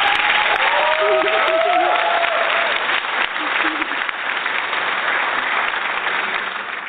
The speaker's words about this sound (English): So round of applause for, I think, one of my new friends.